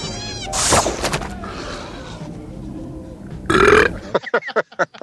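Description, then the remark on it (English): A frog-dog creature outside Jabba's palace in Jedi lets out a loud, gurgling burp amid croaky, animal-like vocal noises, followed by a sharp second belch and a quick run of choppy, rhythmic sounds at the end. “Then in Jedi, of course, you have the frog dog burping outside of Jabba's palace.”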